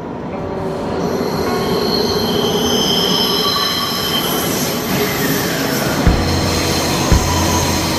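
A metro train runs steadily with a loud rumble, high sustained wheel squeals whining above it, and a couple of sharp clunks near the end. No one speaks.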